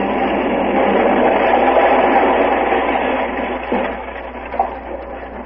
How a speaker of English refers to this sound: Whoever's in that rocket ship that crashed out there is going to need help.